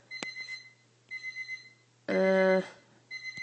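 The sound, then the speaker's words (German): An alarm clock rings with a repeating electronic melody of short, bright tones in bursts, broken by one louder, buzzier blast midway, clear with no talking. “Das ist jetzt mein Wecker.”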